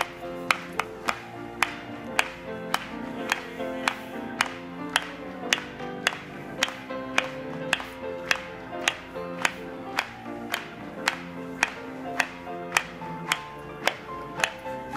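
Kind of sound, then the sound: crowd, rhythmic hand clapping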